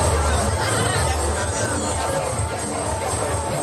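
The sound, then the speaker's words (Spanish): A busy fairground street crowd on the Calle del Infierno at the fairground: a dense, steady hubbub of many overlapping voices, loud and continuous throughout, with no single speaker standing out. “Así suena la calle del infierno estos días.”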